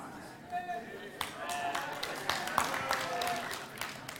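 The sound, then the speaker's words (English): A crowd cheers and claps over about four seconds, with sharp scattered hand claps, rising whoops and steady voices blending into a lively, moderately loud burst of applause. “And all of those people cheering failed their first test.”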